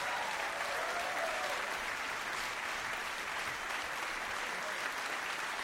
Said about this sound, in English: And what about a round of applause for the …?